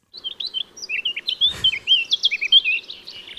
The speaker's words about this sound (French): Alors, par exemple, des chroniques sur le gazouillis des oiseaux.